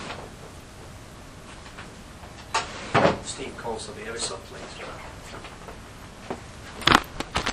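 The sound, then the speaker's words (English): A drawer slides open with a scraping rumble as freshly printed pages are put into it, then it is shut again a few seconds later with a sharper knock. Faint voice-like sounds fill the gap between the two. “I'm going to put them in my drawer.”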